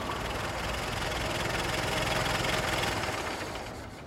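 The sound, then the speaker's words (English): A car engine idles steadily after the car is stopped, a continuous low rumble with a faint rattling texture and no voices, holding even for about four seconds before easing slightly. “I'm going to stop the car.”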